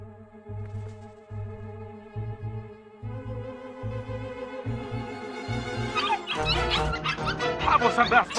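dogs barking and yipping

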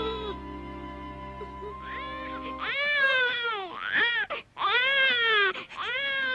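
newborn baby crying

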